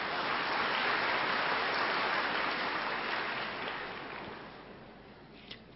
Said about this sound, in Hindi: अपने लिए ताली बजा लो और क्या।